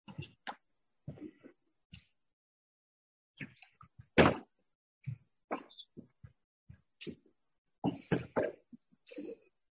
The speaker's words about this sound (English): And in going to 1 Corinthians 10, just put the chair over here for me, I didn't press. Yes, I'll use it.